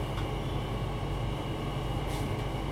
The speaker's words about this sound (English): Riding backwards on the train.